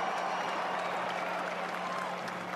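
A large crowd of Giants fans at a rainy parade applauds and cheers in a dense, steady wash of clapping that holds at an even, fairly loud level for the whole stretch, with no clear talking on top.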